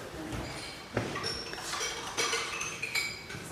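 Dishes and cutlery clink and clatter in a kitchen, with sharp metallic and ceramic knocks at irregular intervals over a steady background hum, a few strikes louder than the rest.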